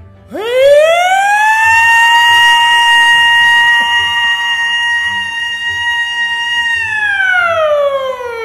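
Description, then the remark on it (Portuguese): A voice imitates a factory alarm: a loud wail that swoops up, holds a steady high pitch for about six seconds, then slides back down, with no other talking. “Primeiro, som, não dá pra fazer aqui porque é muito alto, mas era um alarme de fábrica.”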